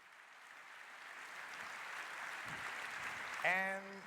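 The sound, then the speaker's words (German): An audience applauds steadily for about four seconds during a presentation on securing power grids against hacking, a dense, even wash of clapping, with a short voiced whoop or call rising briefly above it near the end. “Applaus.”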